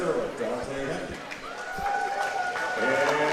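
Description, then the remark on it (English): A steady murmur of many overlapping voices as the crowd still fills in at the home venue before a basketball game, chattering at moderate volume with occasional louder calls and faint thuds in the background. “Crowd's still filling in here inside the Wolf Den.”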